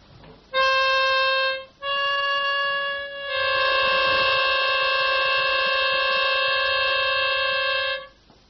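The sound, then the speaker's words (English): Two steady, reedy musical tones sound together in a harsh, clashing dissonance. A single tone starts, breaks off briefly, then a second joins and both hold loudly for several seconds. “Now, if you listen very carefully, you will find that the quarrel is between the tones themselves.”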